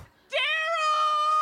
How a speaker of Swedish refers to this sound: Var beredd på ett nytt vrål.